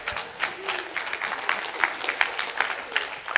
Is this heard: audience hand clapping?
yes